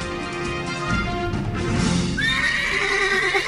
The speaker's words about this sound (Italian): C'è sempre questo cavallo, sempre il cavallo di Francesco che è il nostro fonico.